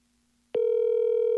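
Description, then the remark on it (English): After a moment of silence, a steady electronic telephone tone sounds on the line, a loud, unbroken hum that begins abruptly and holds to the end. No one speaks. “No, I got to call that back if that's the case. I think I might have just called the guy that I did the show on BBL with.”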